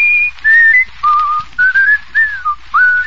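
A man whistles a short song tune as a quiz challenge for 5 points on a scoreboard, a string of clear pure notes gliding up and down in phrases with brief breaths between them and no talking.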